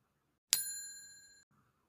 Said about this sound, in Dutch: Om de verschillende stukjes van elkaar te onderscheiden, leiden we ze in met een heel klein belletje.